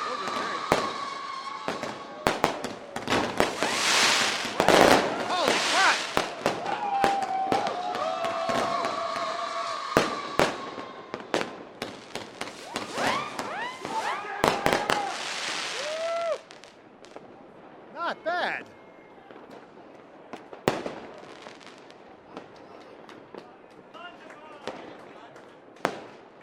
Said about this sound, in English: These are professional grade fireworks. Yes, absolutely. Fantastic.